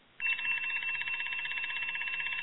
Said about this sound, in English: And then you wake up to the damn alarm clock, time for work.